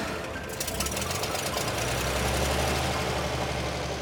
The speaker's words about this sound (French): Quelques secondes plus tard, ils sont bien installés sur le dessus du camion, qui prend finalement la route en direction de Saint-Léonard-d'Aston.